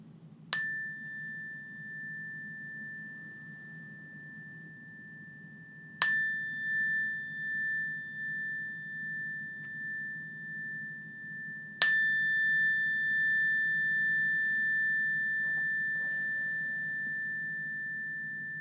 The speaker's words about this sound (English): And in a few moments when I ring this bell again, notice the bell until you can't hear it any longer or until it's no longer there.